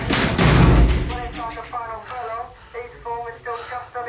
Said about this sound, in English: I kick the door shut.